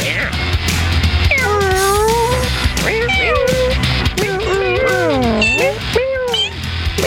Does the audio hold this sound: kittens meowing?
yes